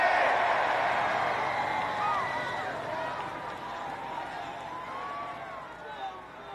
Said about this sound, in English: On the count of three, we're all going to scream Cyclops Army. One, two, three. Cyclops Army!